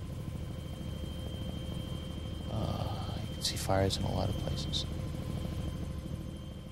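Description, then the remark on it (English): A helicopter's steady turbine whine and rotor drone fill the background throughout as it lifts off and heads out over Saigon, loud and constant, while a man speaks briefly over it. “Incredible, like a turbine kind of whining sound.”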